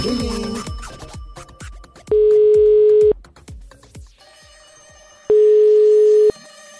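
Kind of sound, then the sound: signal or alarm, telephone ringing tone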